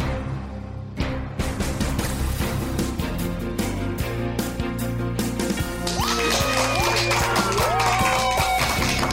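audience applause

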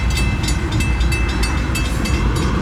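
passing train

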